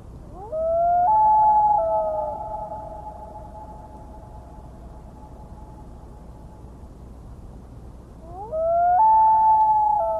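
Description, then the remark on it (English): Two long, mournful loon wail calls, ascending then slowly descending howls made with the bill clamped nearly shut, carrying across a lake to another loon; the first lingers several seconds before fading, and the second starts loudly near the end over a low rumbling background. “The wail is an ascending, then slowly descending howl. To do this, the bird clamps its bill nearly shut.”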